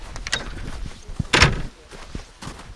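A heavy door is pulled open: a few soft knocks and handling clicks, then one brief rushing, scraping swish as it swings, close by, with no voices.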